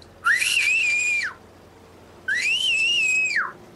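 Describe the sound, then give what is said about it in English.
Two loud, piercing human whistles, each rising sharply, holding a steady high pitch for about a second, then dropping off, separated by a brief pause. No one speaks. “And I start screaming and I start whistling, because I could whistle very, very loud, like very loud. If you want, I could whistle right now for you.”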